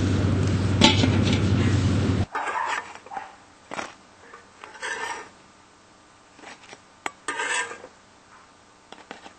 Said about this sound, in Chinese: 15分钟到了，咱们看一下，看水都收干了，这样就好了。焖了一会儿了又，那咱们把它取出来吧。 取出锅。